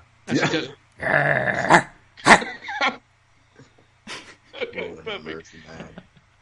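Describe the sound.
A man growls like a dog, imitating David Arquette, in a few rough, throaty bursts, fairly loud, then follows with a stretch of quieter vocal sounds after a short pause.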